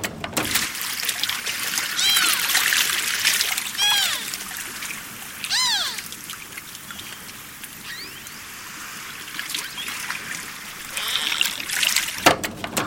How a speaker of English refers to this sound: It's a tool that allows scientists and curious environmentalists like myself to hear what's going on underneath the water. That means beluga songs, clicks, and chirps.